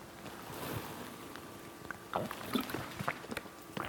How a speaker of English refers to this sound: I think that might be the first time I've ever took a sip of water from the pulpit.